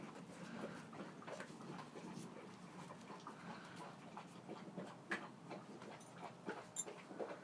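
Two dogs, Tess eating and drinking and Max eating: soft, irregular crunching clicks and wet lapping, quiet, with a steady low background hum and no talking, on the evening of Saturday 22 August as a thunderstorm approaches.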